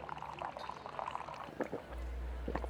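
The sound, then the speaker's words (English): Liquid is poured steadily into a person's mouth for a couple of seconds, a gurgling splash with wet bubbling bursts. Partway through, a low steady hum rises underneath. “I'm going to pour this in your mouth.”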